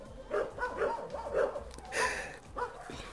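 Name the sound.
dogs barking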